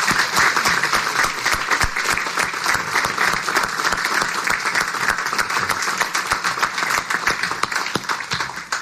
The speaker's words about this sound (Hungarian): Köszönet nektek, és hát talán egy tapsot meg is érdemelnek.